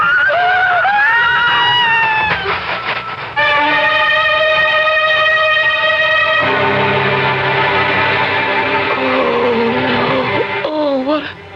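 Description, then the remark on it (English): A horse being ridden through the dark night whinnies loudly, its wavering cry opening the sound and returning briefly near the end, with sustained droning tones filling the middle. “The horse threw you and you fell all the way.”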